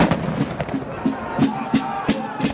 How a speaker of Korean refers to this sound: 그리고 1775년 4월 19일 매사추세츠 렉싱턴에서 첫 총성이 울리면서 이후 8년 동안 계속될 미국 독립전쟁에 막이 올랐습니다.